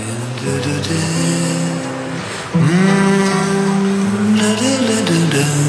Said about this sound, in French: Avec sa panhard jaune coupée sport, une carrosserie en polyester et un moteur à deux cylindres.